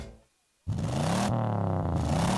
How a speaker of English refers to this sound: Hear that? That's your engine telling you something. To never settle. Because good enough has never been good enough. And your engine knows it.